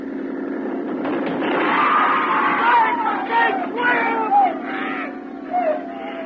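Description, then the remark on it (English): A crowd of people, including women and children, screams and shouts in panic, rising and falling cries piling over one another, over a steady low engine drone as a boat runs down another boat carrying them. “you ran down that boat. Yeah, I know. There were women on it. And kids.”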